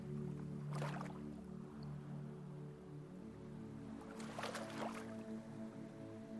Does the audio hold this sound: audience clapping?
no